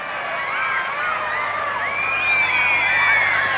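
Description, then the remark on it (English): A huge, excited crowd at the Southern Cross screams continuously, countless high-pitched voices overlapping into a dense, sustained roar that swells slightly louder toward the end, as people are trampled, police horses push the crowd back and a car goes through. “Everyone's going completely mad. People are being trampled in the crowd.”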